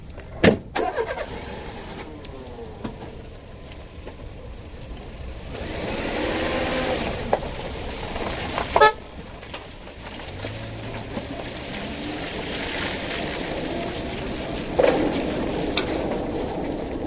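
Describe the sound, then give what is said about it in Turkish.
A car drives steadily in rainy weather with its windshield wipers running, its engine and road noise forming a continuous broad rumble, with a few sharp clicks and thumps scattered throughout. No one speaks. “Araba kullanıyor, göz kapaklarını zor açıyor.”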